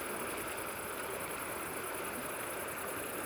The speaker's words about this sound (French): Le débit de la rivière se calme. Elle devient un ruisseau tranquille.